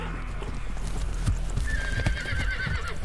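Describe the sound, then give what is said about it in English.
Steady, rhythmic clip-clop of the hooves of Loki's eight-legged steed thuds along with low rumbling, then a high, wavering horse whinny rises over the hoofbeats midway and trails off near the end. “This eight-legged steed crosses eight points of the compass, from eight directions into eight dimensions.”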